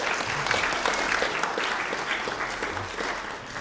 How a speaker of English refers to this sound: Two rounds of applause then. Come on, two rounds of applause.